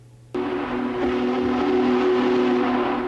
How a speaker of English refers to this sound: And it is no misnomer. Union Pacific's newly refurbished Big Boy steam locomotive. That's the only audio I could find. Is that all you could get? So far, but... But it has a very characteristic sound. And yeah. It bellows.